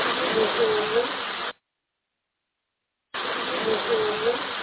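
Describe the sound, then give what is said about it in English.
A steady, fairly loud hissing background noise picked up by a recorder fills two stretches of about one and a half seconds each, broken by a silent gap, with a faint wavering tone faintly audible beneath the hiss. “Now, there was, I don't know what that background noise was, because I don't remember anything making that kind of a hissing noise, but the recorder picked it up.”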